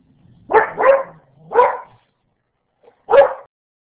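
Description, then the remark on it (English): A dog barks four times, two quick barks close together, then a single bark, a pause, and one more, fairly loud with no talking, as the dog is being chased out. “Okay, sorry, just had to chase the dog out here.”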